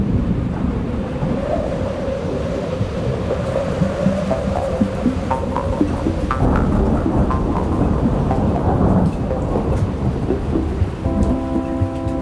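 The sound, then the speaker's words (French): A violent wind and rainstorm sweeps Vaison-la-Romaine around 11 a.m. during the market, roaring continuously with heavy, churning low rumbles beneath a dense hiss of rain. No one speaks, and a brief steady tonal hum emerges near the end. “Vers 11h, alors que l'agitation bat son plein, le vent se lève, puis devient violent, il balaie Vaison-la-Romaine.”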